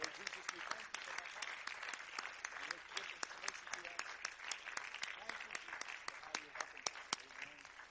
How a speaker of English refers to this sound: Would you offer a hand clap of thanksgiving now? I think, like to think of it that way.